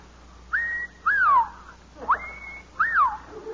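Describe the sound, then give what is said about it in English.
A person whistles an imitation of the mating call of the pink bosom warbler: four clear phrases in a row, some holding a steady pitch and others sliding upward or downward, with short pauses between them and no talking. “When I first saw them, I whistled the mating call of the pink bosom warbler to see if the mother bird would respond.”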